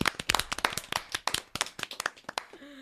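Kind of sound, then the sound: crowd, people clapping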